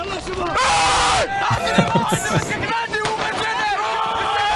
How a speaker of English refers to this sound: Anyway, check out this clip here. Now, just listen to the screams.